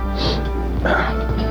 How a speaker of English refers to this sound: I usually sniffle first.